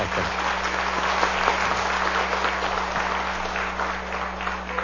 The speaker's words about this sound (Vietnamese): Lên Chúa một tràng pháo tay. À, tạ ơn Chúa và cảm ơn Đức Mẹ. Chúng ta dâng lên Chúa và Mẹ một tràng pháo tay thật tình.